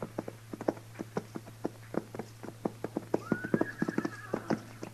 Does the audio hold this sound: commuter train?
no